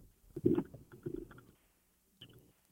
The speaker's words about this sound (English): I mean, I hear you chewing.